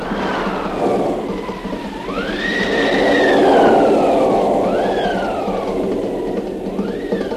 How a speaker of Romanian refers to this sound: Se pornește și furtuna! Ia-te la întrecere cu ea!